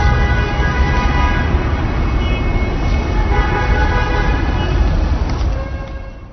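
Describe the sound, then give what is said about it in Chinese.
Dense, loud city road traffic in Beijing rumbles steadily with several car horns sounding over it, some held tones overlapping, before the noise eases off slightly at the end. “他骑摩托车上班，在车流中穿梭要花费他50分钟。”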